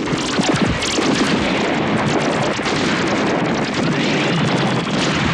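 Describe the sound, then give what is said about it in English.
A laser cannon firing in a loud, continuous roaring blast that fills the whole moment with dense, crackling noise and never lets up, with no voices. “Ready. Laser cannon.”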